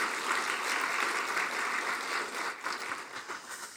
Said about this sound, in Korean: 우리 교사들과 또 여러 부서에 수고하시는 우리 많은 분들을 위해서 우리 한번 또 격려의 박수를 한번 하시겠습니다.